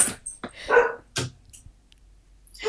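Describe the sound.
A man imitates a dog, as he does when his cat jumps on him, letting out a series of short, loud, rough barks at uneven intervals, with brief quiet gaps between them and no other talking.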